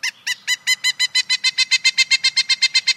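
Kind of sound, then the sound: bird, pileated woodpecker call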